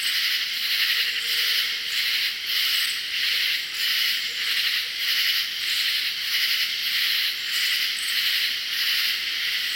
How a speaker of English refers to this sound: Sometimes, large numbers of katydids call in unison. Listen to this raucous chorus calling loudly in a southern swamp, interrupted only by the hoots of a barred owl.